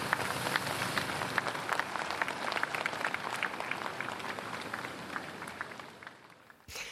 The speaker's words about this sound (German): Großes Ehrengeleit und hinter den Absperrungen versammeln sich Tausende für einen persönlichen Abschiedsmoment. 12 Kilometer zum Friedhof durch die Innenstadt und Applaus zum letzten Gruß.